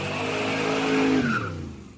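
A car engine revs up loudly with a rising, droning tone, then a brief high tire squeal cuts in before the sound quickly fades away. No voices.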